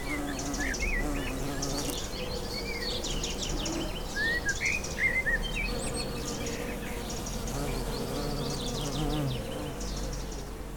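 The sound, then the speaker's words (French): A steady outdoor ambience in an educational biodiversity garden with a bee observatory in Douai: bees and insects hum continuously while small birds chirp and tweet intermittently, with no one talking. “Bienvenue à tous hein, dans ce jardin pédagogique.”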